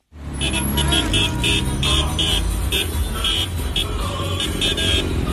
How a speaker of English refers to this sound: Huge traffic jams have formed on the main road from the capital, Beirut, heading south.